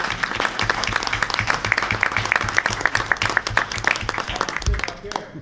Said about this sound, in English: And look at these gals right here. All right, you get a round of applause.